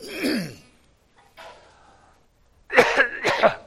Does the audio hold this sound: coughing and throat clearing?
yes